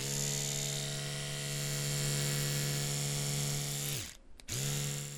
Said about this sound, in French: vous poncez du bois avec une brosse à dents électrique? Oui, bah, j'ai que ça. C'est un peu long, mais c'est très précis.